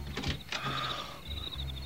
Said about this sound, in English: Here, let me unlock the door.